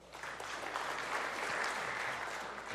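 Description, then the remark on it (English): A church audience claps steadily during a sermon, a dense wash of many hands at an even loudness that holds for the whole few seconds without fading, with no voices above it. “Clap if you've ever thought that question or had that question asked to you.”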